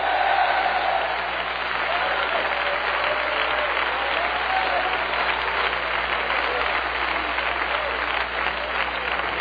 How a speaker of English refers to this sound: I wish somebody clap your hands and shout yes. Shout yes. Shout yes.